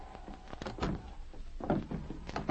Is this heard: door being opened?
yes